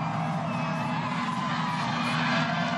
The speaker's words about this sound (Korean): 음악 소리, 환호 소리, 시민들의 뿔피리 소리가 들리십니까?